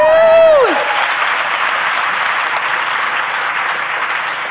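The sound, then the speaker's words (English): A large audience claps steadily and loudly for several seconds, a dense wash of applause that holds level throughout, opening with a brief tone that slides downward and fades. “And if you guys don't applaud too much, we may have time for a few questions at the end.”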